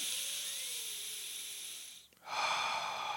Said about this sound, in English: The solution is to breathe in through your nose. Breathing in through your nose firstly ensures that you regulate the amount of oxygen that you are taking in.